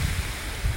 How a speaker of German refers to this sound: Ja, ihr hört im Hintergrund einen Bach rauschen. Und ich bin heute im Wald unterwegs.